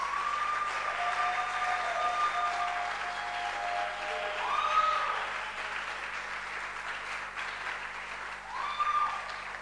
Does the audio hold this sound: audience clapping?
yes